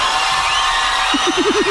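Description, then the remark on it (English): A crowd of women in an arena shrieking and screaming in a loud, continuous high-pitched wash as a man takes off his shirt, with a short warbling low tone rising and falling near the end. “I'm just hearing the ladies screaming here, Glenn.”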